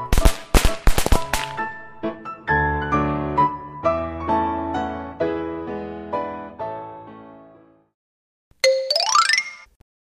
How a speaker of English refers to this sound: You should stay away from firecrackers.